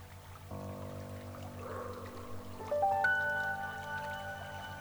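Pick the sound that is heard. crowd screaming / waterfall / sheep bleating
waterfall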